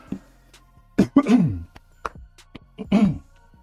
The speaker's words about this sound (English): I'm going to cough really fast.